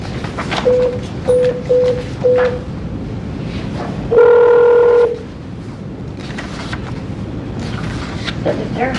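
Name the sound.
telephone dialing tones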